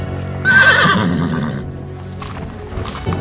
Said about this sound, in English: Do you hear that? Sounds like a bunch of horses.